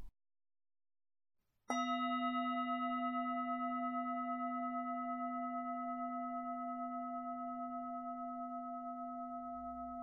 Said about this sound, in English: I'm going to guide you now on a gratitude practice. We'll begin and end the practice with the sound of the bell.